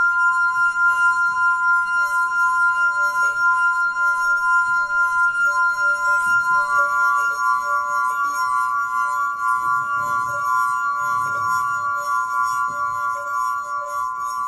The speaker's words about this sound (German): Das klingende Glas hat Lena Mahler auf den Doku-Blog gestellt.